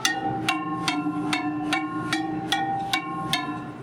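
Metal rods of a xylophone-like sound sculpture at an acoustics exhibit are struck in a steady rhythm, about nine ringing hits roughly evenly spaced, each leaving a sustained bright tone that overlaps the next. Moderately loud, no voices.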